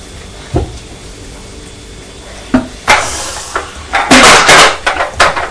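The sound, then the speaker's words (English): A toy truck drops and clatters on a floor: a few sharp, separate knocks, then a louder cluster of rattling, bumping impacts toward the end. No one speaks. “Oh, now you've dropped your truck on the floor and it's frightened her.”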